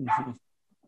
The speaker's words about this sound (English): But next door's dog is really not happy. I don't think you can hear that. He's really not happy with the Exeter Chiefs. He's really going out there. Or maybe he's a Chiefs fan. Maybe he's one of the Chiefs fans.